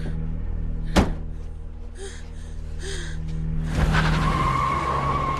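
A car engine idles under a sharp thunk, then revs hard as the car peels out from a driveway at night, tires screeching loudly against the pavement, a sustained squeal with roaring engine noise that carries through to the end.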